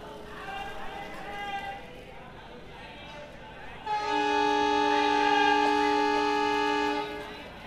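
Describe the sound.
Busy railway platform ambience at Vadodara train station in Gujarat, India, at 10 p.m. on a Saturday, with a murmur of voices, then a loud, sustained train horn blares for several seconds, dominating the scene before cutting off.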